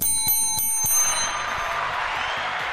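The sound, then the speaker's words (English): A bright metallic bell is struck rapidly about four times, its ringing tones lingering and fading into a steady wash of background noise. “Ring that bell.”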